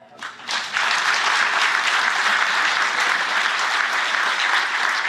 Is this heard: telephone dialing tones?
no